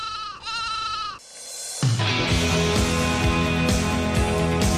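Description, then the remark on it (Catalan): A single wavering, nasal sheep bleat lasts about a second in a radio advertisement for Tot Descans in Villarreal, followed by a short pause before steady music with a bouncy bass line starts and continues to the end. “¿Harto de compartir almohada con las ovejitas?”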